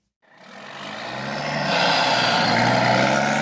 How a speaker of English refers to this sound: 50 miles east of Los Angeles, just off Interstate 10, is one of the busiest long-haul truck stops in America. Here, tired drivers can park their big rigs for the night, grab a bite to eat, take a shower, and relax in front of a big-screen TV.